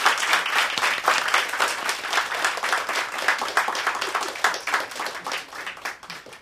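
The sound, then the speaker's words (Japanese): An audience applauds a live band after its members are introduced, clapping steadily for about six seconds, a dense wash of many hands at a fairly even, loud level that tapers slightly toward the end. “大きな拍手を。”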